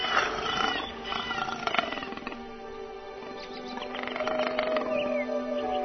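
A tiger roars and growls in a long, rumbling run of deep, raspy snarls, fairly loud, rising again toward the end with no talking.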